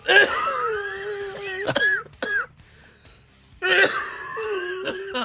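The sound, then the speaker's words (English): A raspy coughing fit with strained, wheezy hacking and throat-clearing in two loud bursts separated by a brief quiet pause, from a person with mucus dripping down the back of the throat into the windpipe. “I'm trying not to do it in the microphone. But it feels like there's a steady drip of slime going down the back of my fucking throat and just in windpipe, top of the lungs.”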